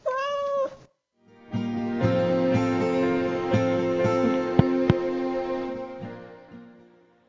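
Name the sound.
cat meowing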